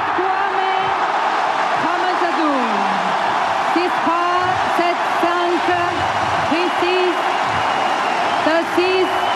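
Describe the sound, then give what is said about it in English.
A frenzied tennis crowd at Suzanne Longling roars with cheering and applause as 17-year-old Moise Kwame wins on match point against Adolfo Daniel Vallejo of Paraguay, a loud, dense wash of noise lasting throughout, with shouts and whoops rising above it and no single voice standing out. “He's flat on his back. The crowd's gone mad.”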